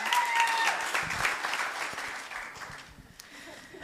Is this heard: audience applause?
yes